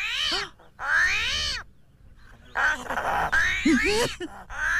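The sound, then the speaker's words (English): An armadillo, caught and held upside down, grunts and squeals in harsh, nasal bursts, a few rising and falling calls with short pauses between, fairly loud with a raspy, almost cat-like whine. “you just did that to make me think there's an armadillo out there”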